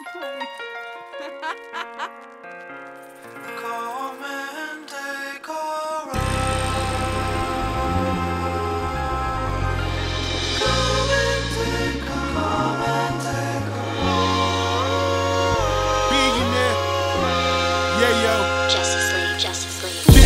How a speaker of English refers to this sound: What is this? …. I like this …. Sweet.